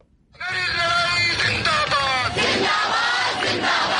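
A large crowd of student protesters in New Delhi, India, chants loudly in unison against a new citizenship law, many voices rising in strong, repeated shouted phrases with a pulsing rhythm that fills the whole stretch after a brief quiet start.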